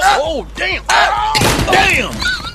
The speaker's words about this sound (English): So he tried the last and smallest chair. Oh, now this chair just right. Must have got it on sale. But as he settled into the chair to rest, it broke into pieces.